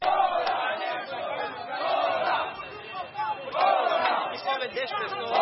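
A crowd of protesters shouts together in the street at a demonstration demanding the resignation of governor Rui Falcão, on a route changed by police away from the busiest streets. It is a dense, loud mass of raised voices that swells in waves around the second and fourth seconds without letting up.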